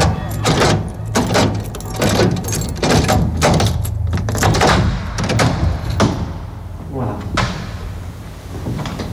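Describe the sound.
A door is shut and locked, with a series of sharp clunks, rattles and metallic clicks spread over several seconds, over a low steady hum and a brief spoken word.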